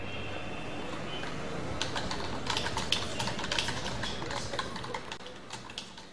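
Rapid, irregular clacking of computer keys, fairly quiet, as someone types while searching the internet for information on the Arab Revolution. The typing starts after a couple of seconds of faint background hiss and continues in uneven bursts to the end.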